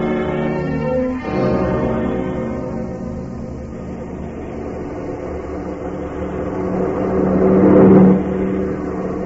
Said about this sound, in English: We swing the car around the curve a little further and head it this way.